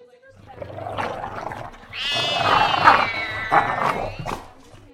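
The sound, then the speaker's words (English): A big cat with very long whiskers and a long tail lets out a long, drawn-out meow, loud, rising after a murmur of background sound and holding for a few seconds. “Wow, what a big cat.”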